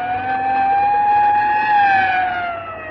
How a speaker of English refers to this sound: Yeah, you better pull over and let that ambulance get past before it runs us down.